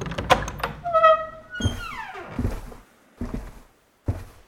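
A heavy thunk, then a rising mechanical whir and a long creaking glide as a secret door slides open, ending in a few dull thuds.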